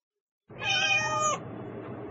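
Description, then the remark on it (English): A single drawn-out cat meow, loud, rising and falling over about a second before cutting off, leaving a low steady background hum with no one speaking. “The cats! Where?”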